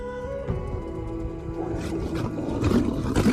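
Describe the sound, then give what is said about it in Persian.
A deep, rumbling animal roar with growling texture, swelling louder toward the end over a sustained low tonal hum, with no voices. “این قرش انتقامه.”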